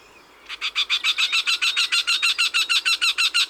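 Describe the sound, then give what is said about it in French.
A wryneck, a sparrow-sized bird that hunts ants, gives a rapid, steady series of harsh, nasal calls, uttered by the male and also the female: around twenty raspy notes repeated in an even rhythm at a fairly high pitch, loud and unbroken, with no voices. “Son chant aigre et nasillard est une série de cris que lance le mâle mais aussi la femelle.”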